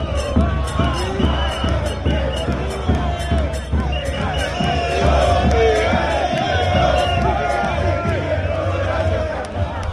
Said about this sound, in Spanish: tengo un compañero en la Puerta del Sol de Madrid donde están los hinchas de River, ¿quieres escuchar lo que cantan